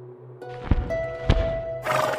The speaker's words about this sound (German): Das geflügelte Pferd landet sanft an ihren Toren.